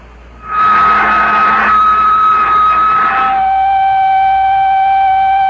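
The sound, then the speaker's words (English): An airlock pumping out starts abruptly with a loud, steady mechanical whine over rushing hiss, then the hiss thins and a single high tone carries on. No voices. “I'm going to pump out the lock.”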